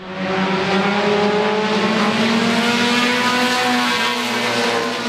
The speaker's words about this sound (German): Es ist Samstagabend und beim Stock-Car-Rennen in Swansboro, North Carolina, drehen die Fahrer nun so richtig auf. Die Strecke ist kurz, gerade 650 Meter lang.